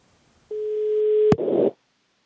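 A single steady telephone ringing tone of an outgoing call to a flat in Malmö, Sweden, sounds for under a second, then cuts off with a sharp click as the line connects, followed by a brief burst of rustling line noise.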